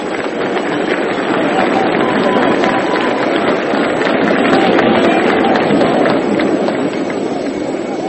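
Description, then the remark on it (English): St. Louis baseball fans applaud Bill Dickey as he walks up to the plate with two men on, a dense, loud wash of clapping with mingled crowd voices that holds at an even level for about eight seconds. “The St. Louis fans are applauding Dickey.”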